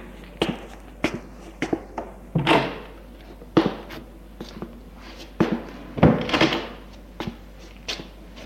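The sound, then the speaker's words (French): A door on the first floor, reached by stairs, is handled and opened: a run of irregular wooden clunks and knocks, with two longer rattling, scraping bursts as it moves, fairly loud with no voices. “Il monte les escaliers et au premier étage ouvre une porte.”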